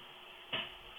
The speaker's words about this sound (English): That sounded like a breaker box door right there.